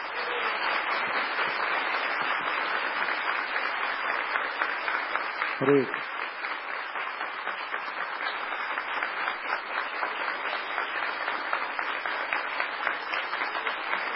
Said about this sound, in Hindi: ये तालियां हैं, ये इनके हृदय का भाव है जो प्रस्तुत कर रहे हैं।